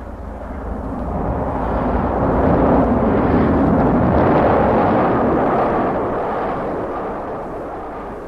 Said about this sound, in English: Nuneaton, Lichfield, Rugeley, the sound of the road, the echo of the passing train, and the signals all tell the driver where the Irish Mail is.